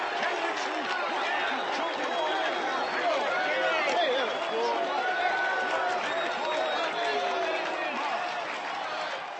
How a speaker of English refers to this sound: Ken Dixon driving one out of here, a grand slam home run, and the Yankees win it 4-1. Listen to that scatter of applause here in Hackensack. Sounds more like a death knell.